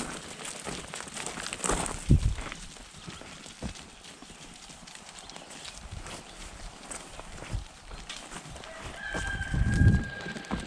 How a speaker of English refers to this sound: Welcome to MetaViews, recorded live at the Academy of the Impossible, where the goats are going for the walk.